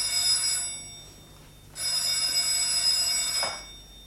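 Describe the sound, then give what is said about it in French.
A telephone rings twice in a bright, steady electric trill, the first burst about half a second, the second longer, with a brief pause between; clear, no voices. It is a call from Monsieur Bergson for the countess. “Monsieur Bergson au téléphone, madame la comtesse.”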